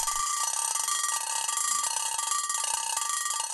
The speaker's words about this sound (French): Et tu sais pourquoi les réveils étaient autrefois très forts et embêtants? C'est parce qu'après une longue journée de travail, les gens avaient le sommeil très très profond.